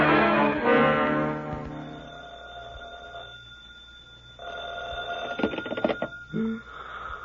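household object, telephone ringing

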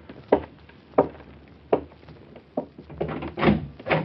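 household object, front door opening

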